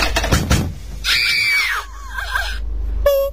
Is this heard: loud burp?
no